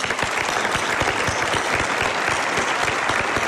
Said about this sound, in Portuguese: E temos que agradecer também aos ouvintes da Rádio Comercial que vieram aqui hoje e que eu peço para se aplaudirem uns aos outros, basicamente. Vamos a isso então.